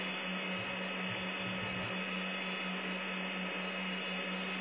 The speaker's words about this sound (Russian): Ты в серверной, что ли? Че? Где ты там, серверный или что? Где я? Да, да, что у тебя там? Это сервер гудит.